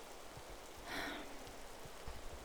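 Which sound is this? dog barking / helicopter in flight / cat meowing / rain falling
rain falling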